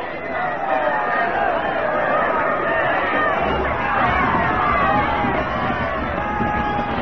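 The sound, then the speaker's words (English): A large crowd gathered in England to watch Raleigh's execution murmurs and chatters steadily, a dense wash of overlapping voices with no single speaker standing out, holding at an even, moderately loud level throughout. “A good crowd, eh, priest?”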